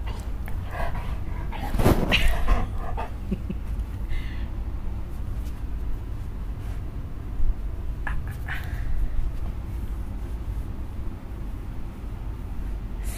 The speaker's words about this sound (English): So both dogs share their opinions in the matter of, in the way of sniffing the mic. But I think some of those symbols and phrases from their nose transcend all barriers.